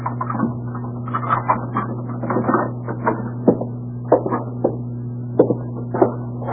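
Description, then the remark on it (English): Keys from an extra set jingle and scrape in the lock of a house door with a run of sharp metallic clicks and rattles, then the door is worked open, all over a steady low electrical hum with no talking. “Now, I'd appreciate your opening the door with that extra set of keys you have, Mr.”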